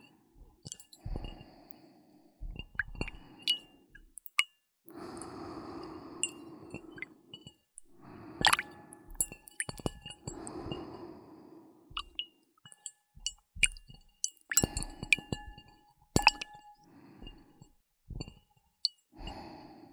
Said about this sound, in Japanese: 水の音って案外気持ちいいですよね。